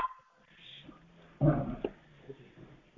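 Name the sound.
dog barking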